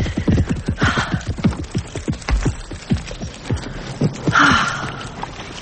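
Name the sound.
horse hooves clip-clopping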